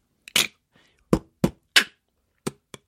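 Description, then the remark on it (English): A person who has just been taught to beatbox makes a sequence of six sharp percussive mouth sounds, kick- and snare-like bursts in an uneven rhythm, fairly loud with no talking. “I just taught Ed Miliband to beatbox”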